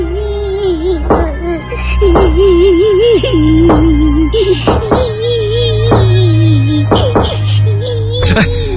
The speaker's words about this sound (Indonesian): Dan tiba-tiba terdengar suara anak kecil menangis sambil mengetuk-ketuk pintu toilet yang ada di dalam.